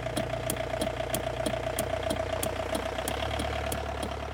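car motor running

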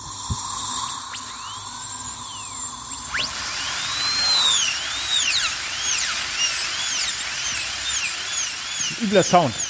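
dental drill whirring

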